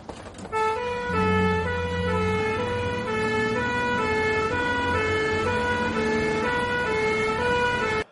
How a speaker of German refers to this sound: machte die Sirene und das Blaulicht an und fuhr sofort los. Es ging diesmal in Richtung Eppendorf.